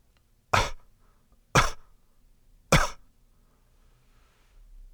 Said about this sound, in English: For instance, where you cough, where you would go outward on a regular cough.